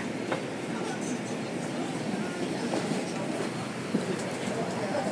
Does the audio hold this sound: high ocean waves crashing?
no